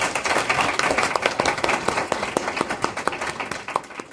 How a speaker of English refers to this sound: Ladies and gentlemen, I want to thank you all for coming this evening, and I would like you please to join me in a round of applause thanking our excellent panelists.